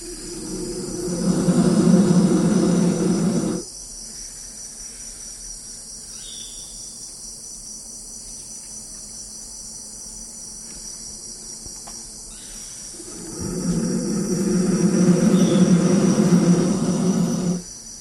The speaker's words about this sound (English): As he looked, he dropped a couple of pairs of microphones down into that hollow, and those baby vultures let out these roars.